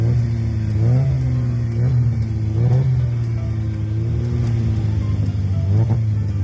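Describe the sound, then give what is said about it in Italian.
The engine of an Autobianchi A112 Abarth car revs hard, its pitch climbing and dropping back several times as it sets off from the start and accelerates through the gears, loud and continuous with no voices. “È un 112 Abarth questo, vero? È un'auto bianchi, 112 Abarth.”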